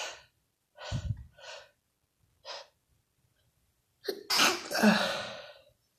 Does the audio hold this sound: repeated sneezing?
yes